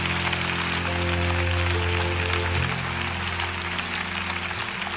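An audience at a morning church service claps hands in praise of the Lord, a dense, steady wash of applause, with sustained low keyboard or organ chords holding underneath throughout, no voices standing out.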